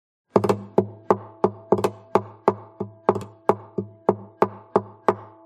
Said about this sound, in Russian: постучал пальцами по гулкой гитаре.